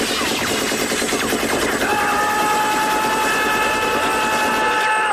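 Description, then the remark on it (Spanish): Loud, sustained machine-gun fire rattles without pause, a dense stream of rapid shots layered over a steady tonal hum, with no voices. “Es que esas ráfagas podían durar una eternidad y no quedaba uno vivo.”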